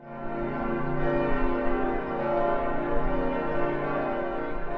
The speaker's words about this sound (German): Die Glocken des Freiburger Münsters. Der berühmte, lichtdurchflutete Turmhelm darüber wurde schon im Mittelalter, im Jahr 1340, fertiggestellt. Mit 116 Meter Höhe war er damals einer der höchsten Türme in Europa.